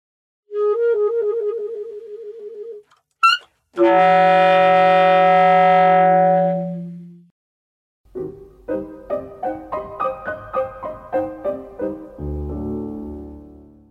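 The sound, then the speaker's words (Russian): Saxophone alone: a wavering vibrato note and a quick squeal, then a loud, buzzy multiphonic chord held for seconds before fading, followed by a rapid pulsing string of rich, clashing tones. “И вот эта вот мультифоника, она вот как прям как кстати.”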